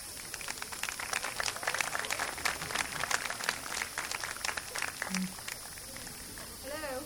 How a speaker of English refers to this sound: Let's clap her onto the stage.